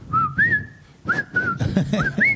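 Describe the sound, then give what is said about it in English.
A person whistles a short melody, with sustained pitched notes sliding up and down in phrases, clear, over a low murmur of background noise. “They were fucking whistling that fucking song.”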